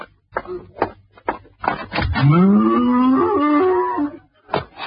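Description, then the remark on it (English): A single long, low cow moo rises and swells for about two seconds, preceded by a few soft thumps and shuffling sounds, with no talking. “And you do mean cow.”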